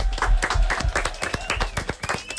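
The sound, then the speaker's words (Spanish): A burst of applause from a small group, many quick overlapping claps, fairly loud, with a few voices mixed in underneath. “aplaudiment.”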